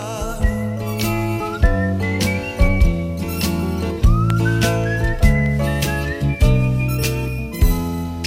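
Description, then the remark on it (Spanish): A clear whistled melody in a song glides and rises over a steady instrumental backing with a regular beat, bright and upfront, with no talking. “Y este silbido es lo que expresa esa sensación de esperanza pese a las dificultades de la vida.”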